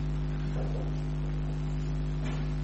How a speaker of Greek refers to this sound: Έχω ανοίξει τον ανεμιστήρα. Αν κρυώνεται, να κλείσουμε τον ανεμιστήρα.